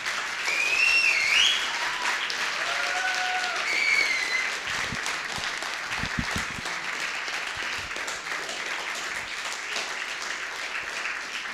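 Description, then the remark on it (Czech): A crowd applauds the kitchen staff (the cooks) steadily for about twelve seconds, a dense, even patter of many hands, with a few shrill whistles rising over it early on. “A vy můžete zatleskat do té kuchyně.”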